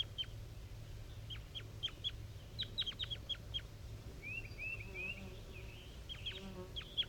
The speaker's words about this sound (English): Wild bird calling. Five three. And a wild bird. Wild bird.